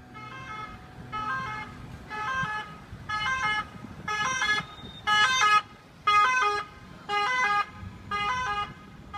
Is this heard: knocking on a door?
no